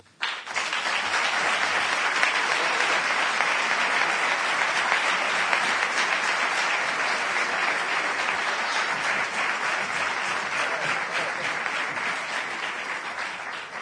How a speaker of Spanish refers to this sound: los aplausos que ustedes peguen se van a quedar cortos, pero es uno de los momentazos sin duda alguna de la charla.